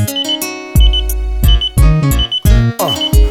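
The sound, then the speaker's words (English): Short, high electronic pager beeps chirp in quick repeated bursts, layered over a booming, bass-heavy music beat with deep thumping hits. “Emotions you can keep, but please back up off my pager.”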